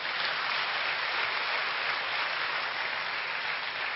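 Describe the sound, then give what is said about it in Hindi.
Sustained loud applause from a crowd thanking a speaker after a talk, a dense, steady clatter of many hands clapping at an even level for the full four seconds, with no voices over it. “एक बार हम सर का जोरदार तालियों से धन्यवाद करेंगे।”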